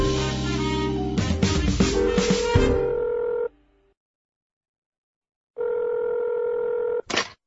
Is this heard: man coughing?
no